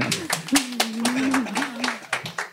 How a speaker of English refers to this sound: I'm not exactly sure what that clapping signifies, but I'm nervous. I made a good point.